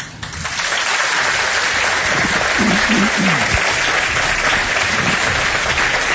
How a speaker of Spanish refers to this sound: A mí me gustaría escuchar cómo suena Belmez, en un aplauso.